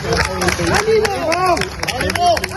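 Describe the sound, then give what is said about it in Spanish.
At the Supreme Court in Madrid, during a recess in the first session of the trial of Spain's Attorney General, a crowd applauds him with steady clapping while voices chant "todo va a salir bien" and shout together, the cheering loud and continuous with rising and falling tones throughout. “Bueno, aunque no te lo creas, los aplausos y eso de todo va a salir bien y va dirigido al fiscal general del Estado, que se sienta desde hoy en el banquillo acusado por un delito de revelación de secretos.”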